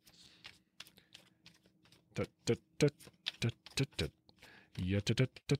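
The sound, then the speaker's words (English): A deck of cards being shuffled and dealt: quick, crisp snaps and flicks in irregular bursts, growing louder and denser toward the end over a low steady hum. “I've reshuffled and laid them out four times and I've got the same three cards.”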